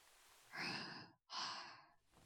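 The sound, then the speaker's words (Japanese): A breathy yawn near sunrise: a long airy inhale, a brief pause, then an equally long drawn-out exhale. It's quiet and intimate, with no talking. “…あくびが。もう日の出も近いゆえ。”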